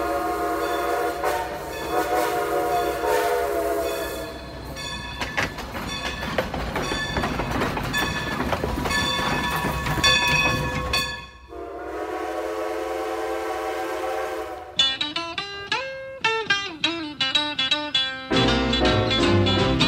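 A train rumbles past on the rails, loud and continuous, with sustained horn blasts sounding over the clatter and shifting in pitch toward the end. No one speaks.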